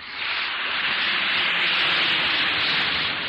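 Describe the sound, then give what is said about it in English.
An Alka-Seltzer tablet fizzes in water, a steady, dense crackling hiss that holds even and loud for a few seconds with no voices. “Listen to it fizz.”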